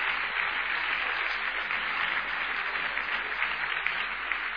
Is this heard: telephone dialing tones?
no